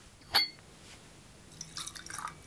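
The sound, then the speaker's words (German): A sharp glassy clink rings out, followed a moment later by a short, gurgling pour of ten-year-old American rye whisky from a decanter splashing into a glass, fairly quiet, with no talking. “Heute aus der Karaffe.”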